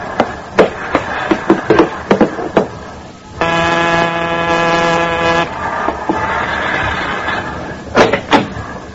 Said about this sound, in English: There's no handles here. I lurched against the door as it started to close in my face.